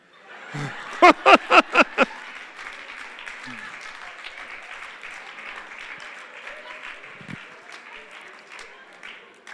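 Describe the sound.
A crowd applauds: a burst of several sharp, loud claps near the start gives way to steady, softer clapping that continues to the end, with faint voices murmuring underneath.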